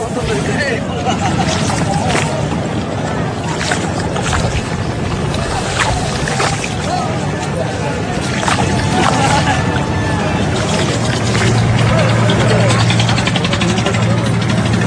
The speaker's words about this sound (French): On est sur le port de Dakar, là, c'est complètement délirant.